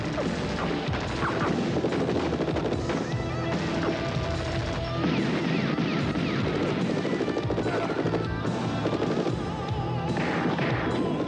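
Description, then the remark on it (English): Bursts of gunfire crack through a loud, dense rock music soundtrack, with crashes and whirring machinery noise piling up in a chaotic, continuous action scene from a TV series finale featuring Crockett and Tubbs. “And almost everywhere they turned, the gunfire was almost as loud as the rock music on the soundtrack.”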